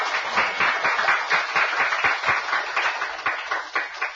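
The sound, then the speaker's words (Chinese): A crowd applauds steadily to welcome a Buddhist Dharma master, many hands clapping in a dense, continuous patter with no pause and no voices, holding at a fairly even loudness throughout. “首先请各位鼓动自己的双手，以热烈的掌声欢迎法师。”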